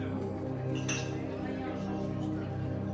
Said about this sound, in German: Teller und Gläser klirren, Kellner huschen geschäftig umher.